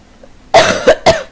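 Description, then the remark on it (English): A harsh, raspy throat-clearing hawk of phlegm: one long gravelly rasp followed by two shorter, sharp bursts, loud and rough with no talking. “I can hawk loogies on here, too.”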